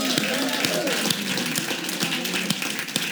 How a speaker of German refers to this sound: Und lass uns allen Mitarbeitern von der Summer Breeze, die in irgendeiner Form mitgeholfen haben, einen riesen Applaus geben.